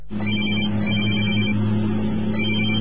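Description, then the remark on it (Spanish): A cell phone ringtone chirps in repeated bursts over the steady low hum of a car engine, loud, with a short pause between rings, as the phone rings while its owner is driving on the road. “Ese llamado cerró el negocio de tu vida. No uses el celular cuando manejes.”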